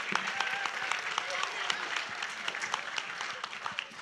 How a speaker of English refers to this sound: All right, give yourselves a massive round of applause.